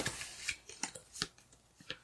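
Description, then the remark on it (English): Playing cards being shuffled, a quiet run of crisp papery snaps and flicks coming in irregular bursts with no talking over them. “Get the sound of them shuffling.”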